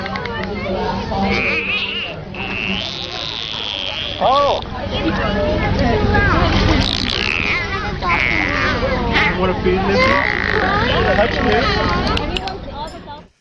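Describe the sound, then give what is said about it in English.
Dolphin sounds played from a web browser chatter in a dense stream of high, squeaky whistles and chirps that rise and fall in pitch, overlapping steadily throughout, with a person briefly exclaiming partway through. “There's some dolphin you? Sounds.”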